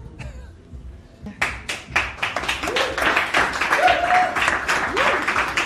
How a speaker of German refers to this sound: Applaus!